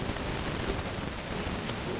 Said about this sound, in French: Il pleut beaucoup.